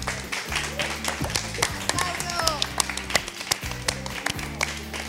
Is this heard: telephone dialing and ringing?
no